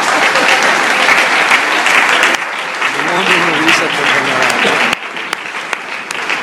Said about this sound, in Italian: Un applauso che vuol dire che stava dicendo cose belle.